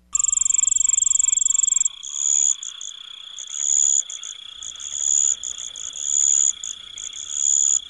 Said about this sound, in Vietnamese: Trời về đêm rất yên lặng, chỉ nghe tiếng dế cóc kêu thôi.